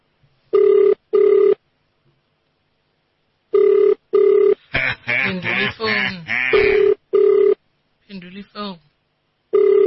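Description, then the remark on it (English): A telephone rings on a call, its loud, steady double-pulse tone repeating several times with pauses between. Partway through, people talk over and between the rings. “It's ringing.”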